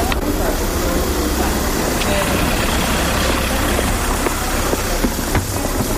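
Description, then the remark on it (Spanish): A busy street soundscape in the Calderería at 10 in the morning: a steady low rumble of idling and passing vehicles, including a police car, with indistinct voices of people chatting on café terraces and occasional sharp clinks over the constant hum. “Pues a las 10 de la mañana, este era el sonido en la calderería.”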